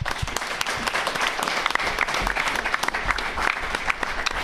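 audience applauding

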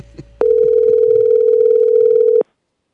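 telephone call ringing unanswered

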